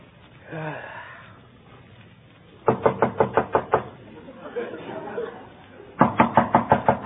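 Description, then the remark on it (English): Two bursts of sharp, rapid knocking on a door, each about six or seven raps in quick succession, separated by a pause with faint breathing or murmuring sounds. “somebody at the door.”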